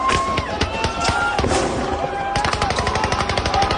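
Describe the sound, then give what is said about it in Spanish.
Loud, rapid bursts of explosive fire crackle almost nonstop, like bombing by Israel and Hamas rocket fire on Tel Aviv continuing through the early morning, with sharp blasts packed closely together and a dense rattling barrage intensifying toward the end. “Hamas, por su parte, ha seguido atacando con cohetes a Tel Aviv, bombardeos que han continuado durante toda esta madrugada.”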